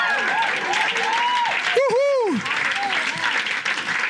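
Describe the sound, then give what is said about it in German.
An audience breaks into steady, loud applause for the Lord Jesus, a dense wash of many hands clapping at once, with cheering voices and a whoop rising above it. “es unserem Herr Jesus einen riesen Applaus geben.”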